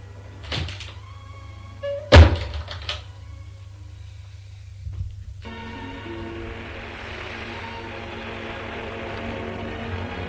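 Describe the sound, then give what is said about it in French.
A door bangs shut with a sharp, heavy thump as a woman walks out of the room, preceded by a lighter click and followed by a softer knock, then a low steady hum fills the rest. “Elle va vers la porte, se retourne.”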